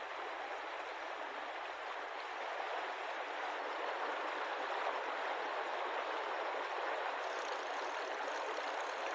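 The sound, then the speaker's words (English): A steady, even wash of rushing water from a creek, Hope Creek, fills the whole recording, a broad hiss with no pauses or distinct events. No voices are heard. “I was weary, but not too weary to go down to Hope Creek to see if I could catch a fish to go along with my beans.”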